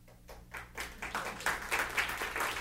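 An audience starts applauding, with scattered claps quickly building into a steady, swelling round of clapping that keeps growing louder, with no speech over it.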